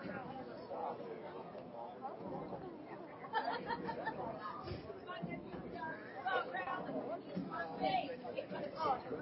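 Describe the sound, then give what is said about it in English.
A steady murmur of crowd chatter fills a baseball stadium during a night game the team is winning, many overlapping voices blending into a continuous babble, lively but not loud, with a few slightly louder swells. “Crowd, you can hear them. Not boisterous tonight, but they're enjoying winning baseball.”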